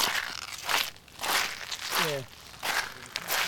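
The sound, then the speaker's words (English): Estuary marsh crackling and popping: a dense, irregular fizz of tiny clicks that swells in bursts and fades, with a brief voice-like sound partway through. “So, these marshes, they do make their own sound.”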